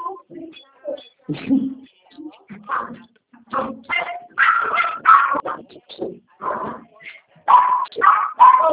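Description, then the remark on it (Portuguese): A dog barks and whimpers in a restless, irregular series of yips and whines that continues for the entire stretch with only brief pauses between bursts. “Nossa, cachorro chato do céu.”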